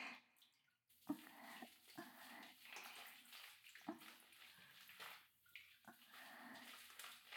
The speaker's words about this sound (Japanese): お背中を流しますね。まずはボディーソープを出して、それを萌えのおっぱいにつけて泡立てます。